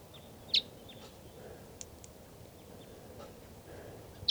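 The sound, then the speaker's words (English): A lone female wild bird, up in the trees by a truck and coming down, gives a few short, sharp high-pitched chirps, one near the start and another at the end, with fainter peeps between, over a steady low outdoor rumble and no voices. “And she's up in the trees here by the truck, and she's coming down.”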